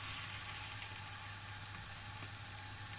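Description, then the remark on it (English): Steady, crackling sizzle of chicken stock, made from a stock cube and water, bubbling and reducing in a hot pan, a continuous bright hiss with faint pops and a low hum underneath, no voices. “What I'm going to do is throw in this chicken stock.”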